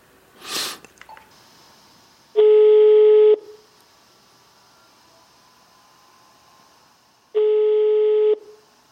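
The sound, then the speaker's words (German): A telephone ringback tone heard while placing a call: two steady, mid-pitched electronic tones about a second long, separated by roughly four seconds of quiet line hiss, preceded by a brief click or rustle. “Und die versuche ich jetzt mal anzurufen.”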